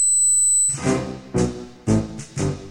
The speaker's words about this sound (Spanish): Silbatos para perros.